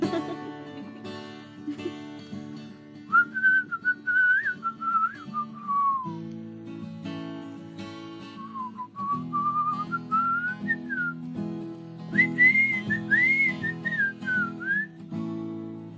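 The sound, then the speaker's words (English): A person whistles a wavering solo melody in three bright, clear phrases, carried over a steady low instrumental backing of sustained chords. “You should always drink water before you do a whistle solo.”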